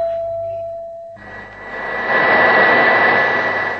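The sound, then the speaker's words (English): A passenger jet's engine spools up from a low steady hum into a loud, sustained roar with a high whine riding on top, swelling and holding. “This is your pilot, Captain Nemesis, welcoming you aboard your aircraft.”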